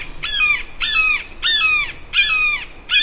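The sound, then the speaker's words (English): A red-shouldered hawk calls repeatedly, about six sharp, insistent cries in steady rhythm, each a loud, high, slightly downslurred scream, with no voices. “Sharp, insistent cries signal the presence of one of North America's most beautiful birds of prey, a red-shouldered hawk.”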